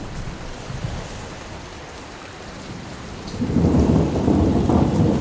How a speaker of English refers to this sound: dark clouds cover the sun. A storm comes up.